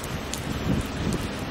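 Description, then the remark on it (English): Rain drips and patters steadily all around by a roundabout with trees and an obelisk in Boulogne-sur-Mer, a soft continuous hiss with a few brief louder drops standing out, with no one speaking. “I can't get any closer because it's dripping like hell.”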